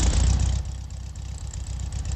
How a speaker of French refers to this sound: Elle chante, vous entendez ce petit clic, clic, clic, clic, clic, clic, clic, clic, clic. Il n'y a pas d'autres voitures qui font ce bruit-là.